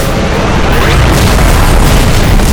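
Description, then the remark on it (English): A loud, sustained explosive roar fills the whole clip, dense and rumbling with heavy low-end booms and crackling debris throughout, as four helicopters struck by beams of black light explode at once, sending shrapnel into the air and to the ground. “Four craft exploded as one, sending a wave of white-hot shrapnel into the air and to the ground.”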